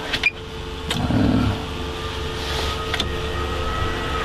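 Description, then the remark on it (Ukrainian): A drone hovers overhead, giving a steady, moderately loud motor hum with a faint tonal whine throughout, broken by a few brief clicks and a short low rumble; no one speaks. “якісь маршрутки їздили, якісь там діти бігали, велосипеди каталися, вон дрон висить.”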